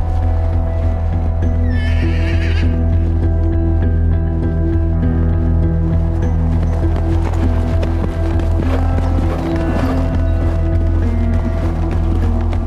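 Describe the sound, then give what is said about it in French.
A horse whinnies loudly at a stable, with a shrill rising call near the start, over a steady low hum and faint shuffling that may be hooves. No one speaks. “Ce jour-là, j'étais à l'écurie, comme quasiment tous les jours, pour m'occuper des chevaux, c'était dans la matinée.”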